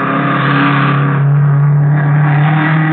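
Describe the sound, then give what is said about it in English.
A low, cut-down blue race car's engine roars loud, its droning pitch holding steady with a slight rise midway as it speeds by during speed test trials on a long sandy beach. No voices are heard. “They were racing in a low, cut-down blue car. The frame had looked familiar as it whizzed by me.”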